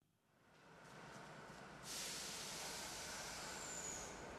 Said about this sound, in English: I went back to Dublin on the train on my own.